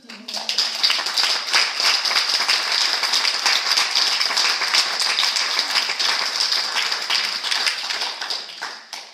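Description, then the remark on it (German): An audience applauds steadily, dense overlapping hand claps forming a continuous, fairly loud wash that holds for several seconds before tapering slightly at the end. “und ich finde, sie hat auch nochmal einen Applaus.”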